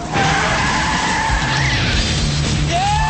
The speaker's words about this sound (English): steps on the gas, and the car roars off, leaving the pursuing policeman in his dust.